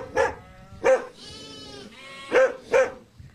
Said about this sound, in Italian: Ma la sera, ecco le pecore! Fra poco andiamo a vedere.